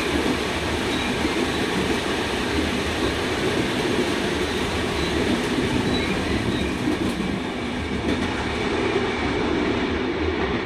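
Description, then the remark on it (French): A suburban commuter train rumbles steadily and loudly throughout, with a dense, continuous roar of wheels and carriage noise and faint clattering, and no voices. “Le problème du logement est les trains de banlieue.”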